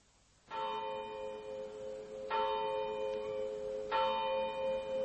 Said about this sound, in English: The clock of the village church was striking 9 as I passed through the lodge gates.